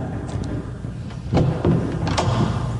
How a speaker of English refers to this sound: Now I'll try just knocking on the door. Now, why didn't you do that first? I forgot that you could do that.